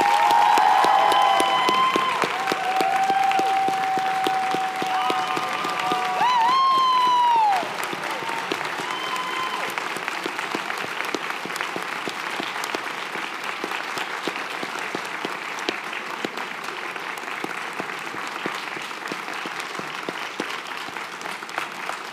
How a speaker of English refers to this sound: I would like to invite the class to recognize with a round of applause all the friends, supporters, family members who have made this possible for them.